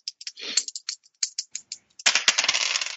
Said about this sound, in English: Give me a persuade or charm roll, I guess. Sure. I have dice.